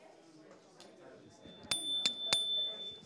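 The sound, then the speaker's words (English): A small bell, signalling the next turn in a paired sharing and listening exercise, is struck three times in quick succession, each strike leaving a bright, high ringing tone that hangs on, with soft murmuring voices underneath. “Second person will be listening, and listen for the bell.”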